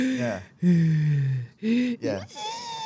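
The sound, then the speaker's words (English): A voice imitates a newborn baby's breathing while it sleeps, with about four short, pitched, gasping breaths and little whimpers, fairly loud, separated by brief pauses. “And how they kind of breathe like.”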